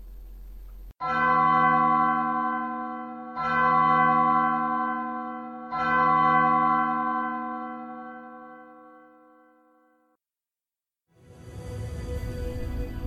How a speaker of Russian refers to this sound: Девушка обрадовалась и хотела заговорить с ним, но внезапно ее перебил огромный колокол, который, как перед судом, стал звонить и заставил Ханну встрепенуться.